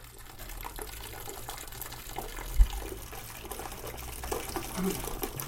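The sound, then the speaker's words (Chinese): Ground soy milk is poured steadily into cotton cloth to filter out the soybean pulp during tofu making in Gangneung, a continuous splashing, trickling wash of sound, with a single dull thump partway through and no voices. “这时候，老板把磨好了的豆浆倒入棉布中，过滤出豆渣之后，就在锅里煮。”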